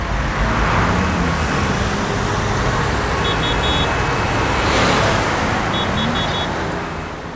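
Busy city street traffic with petrol-engine cars, a dense steady roar of passing vehicles, with a few faint high beeping tones twice in the background.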